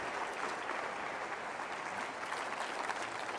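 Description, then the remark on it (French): An audience claps and cheers together to acclaim God in a steady, dense burst of applause that holds at an even loudness for a few seconds, with no speech over it. “Et sur ce cœur, on peut applaudir ensemble parce que sur ce cœur, Dieu va bénir sur ce cœur. Acclamons ensemble Dieu qui va répondre à ce cri.”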